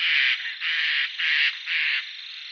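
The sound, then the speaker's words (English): A harsh, raucous shrieking call of a woodland bird historically nicknamed the Screamer of the Woods swells in four rasping surges over a steady buzzy drone, loud and alone with no voices. “It's a kind of shrieking, raucous call, and historically earned them the name the Screamer of the Woods.”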